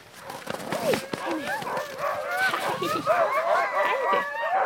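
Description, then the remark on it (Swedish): A pack of ten sled dogs harnessed to a sled, five on each side of a long line, barks, yips and howls excitedly all at once while moving eagerly in place, a dense, overlapping chorus that stays loud and restless throughout, with no pauses between calls. “De skäller, ylar och rör sig ivrigt där de står”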